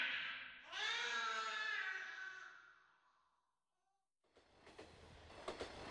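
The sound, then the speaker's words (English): A loud, drawn-out metallic wail fades into a brief silence, then a train car crammed with about 50 people rumbles along the rails with a steady, rhythmic clatter of wheels over track joints. “Crammed into a train cart with 50 other people, with no food, water, or light.”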